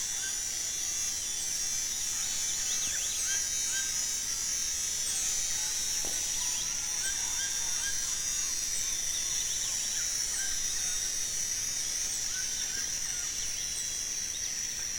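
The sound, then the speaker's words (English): A tropical dawn chorus with howler monkeys and birds as the first insects ratchet to life: a steady, high-pitched insect drone fills the air while many birds chirp and call intermittently, with no one speaking. “And this recording has that wonderful transition from the first flush of a dawn chorus with the howler monkeys and birds, and transition into the period when the first insects ratchet to life.”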